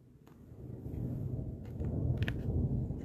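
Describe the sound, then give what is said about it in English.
A low, distant rumble of thunder during a thunderstorm rolls steadily for a few seconds, slowly swelling in loudness, with faint crackles above the deep boom and no voices. “Oh, sorry for the rumbling if you hear that. We're doing this during a thunderstorm.”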